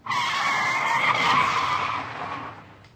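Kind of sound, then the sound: vehicle, car skidding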